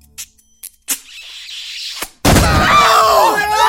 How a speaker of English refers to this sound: Well, why did you just break down the door?